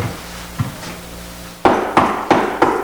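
Knocking on a door across the street: a few soft, dull taps, then four loud, evenly spaced raps in a steady rhythm. No one speaks.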